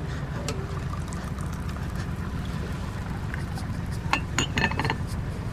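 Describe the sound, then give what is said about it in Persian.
Tea is poured into a glass aboard a ship, with a few light clinks of glassware, over the steady low drone of a boat engine; the sharpest clinks come near the end. “لیلا چای میریزه.”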